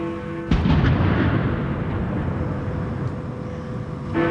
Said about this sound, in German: Salutschüsse.